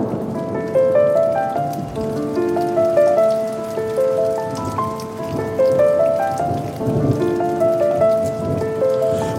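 Steady rain patters on a hard surface at a fairly loud, even level, mixed with sustained tonal notes like a soft melody; no one speaks.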